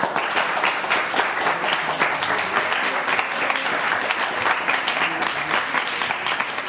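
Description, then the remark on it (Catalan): An audience applauds a student from Institut Vilafranca 2 of Vilafranca del Penedès, dense overlapping clapping at an even, sustained level for several seconds without pause. “li fem entre tots un aplaudiment.”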